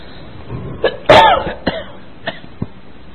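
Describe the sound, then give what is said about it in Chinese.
A series of short, harsh coughs, one louder and longer bout followed by scattered smaller ones at irregular intervals, with no talking. “对不起啊，咳嗽断断续续的。”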